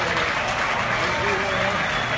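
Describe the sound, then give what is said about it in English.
A large stadium crowd cheers and applauds after Tebow's first hit, an opposite-field base hit, a dense, steady roar of clapping and voices that holds loud for about two seconds. “Oh, shut up, crowd.”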